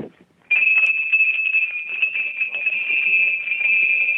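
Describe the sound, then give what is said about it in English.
Harness shaft bells for a pair, one harmonized higher than the other and mounted underneath the shafts, ring in harmony, starting after a brief pause into a steady, loud, high-pitched ringing tone with a shimmering jingle that continues without break. “Those are shaft bells.”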